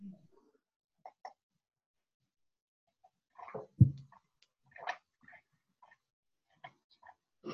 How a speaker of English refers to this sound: So blow your nose and cough. Räuspert euch oder schneuzt eure Nase.